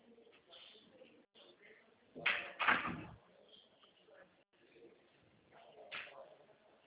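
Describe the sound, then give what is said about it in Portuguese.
A door is pushed shut partway through, making two quick, fairly loud knocks and rattles, with faint murmuring voices and background noise before and after. “fecha a porta, por favor.”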